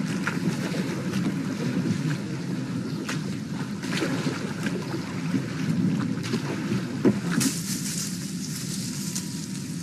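A boat moves across open water, with a steady wash of wind and lapping waves and occasional creaks and knocks, heard continuously with no one speaking.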